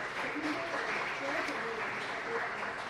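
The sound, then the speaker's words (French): A room full of people at an ICANN meeting applauds steadily for about three seconds, approving by acclamation the election of the vice-chair of the ICANN board of directors, a dense, even wash of clapping with a few faint voices underneath. “Cette motion est approuvée par acclamation.”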